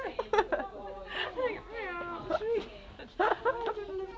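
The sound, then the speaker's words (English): Two cats, one of them Siamese, trade drawn-out, wavering meows back and forth over a long-distance phone call in a chatty exchange, the calls rising and falling over about four seconds, moderately loud. “So these cat, two cats were having chatting away.”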